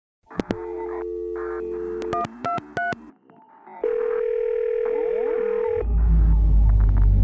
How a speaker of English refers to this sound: The phone is ringing.